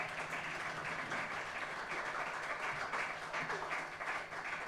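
An audience applauds a band, many hands clapping in a dense, steady wash of noise that holds at an even level throughout, with a faint murmur of voices underneath.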